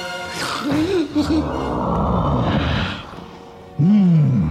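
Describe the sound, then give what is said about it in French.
A loud, rough, sustained roar, like a monstrous beast bursting through a drawing-room door, swelling with a breathy rasp and ending in a deep growl. It sounds like a human voice imitating the creature. “Soudain, la porte du salon s'ouvrit violemment et une bête monstrueuse surgit en rugissant.”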